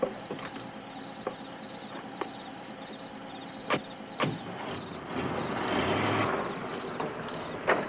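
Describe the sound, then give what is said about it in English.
Two sharp thumps like car doors slamming shut as two people get into a car, then an engine swells and the car drives off, its rumble building steadily for a couple of seconds before easing back. No one speaks. “He runs to the driver's side and hops in.”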